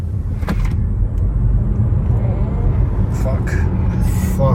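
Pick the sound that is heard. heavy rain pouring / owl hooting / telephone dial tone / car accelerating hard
car accelerating hard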